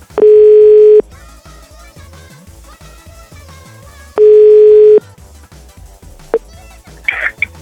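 Two loud, steady telephone ringback tones, each about a second long and roughly three seconds apart, play as a call is placed to a woman, over quiet background music. A brief high chirp follows near the end.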